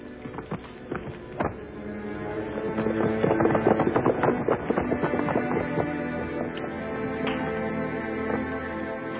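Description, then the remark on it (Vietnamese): Horse hooves galloping in a steady, rapid clatter of repeated beats as a general rides away on horseback, building in the middle and continuing to the end, with no voices over them. “Tướng quân hãy lên ngựa đi.”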